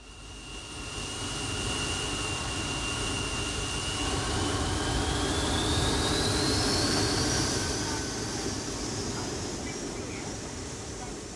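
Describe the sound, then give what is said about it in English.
A jet airplane takes off at Tokyo International Airport, its deep roar swelling and holding steady while a high turbine whine climbs in pitch, then the noise gradually eases near the end. “Sony Stereo now takes you into the air with the sound of a jet taking off at Tokyo International Airport.”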